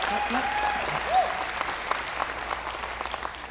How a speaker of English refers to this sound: So we're grateful that you have chosen to celebrate 20 Easters with us. We think, can you clap for that?